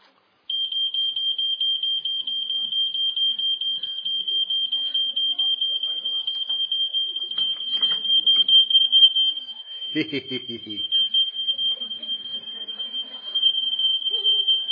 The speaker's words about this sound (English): Smoke alarm.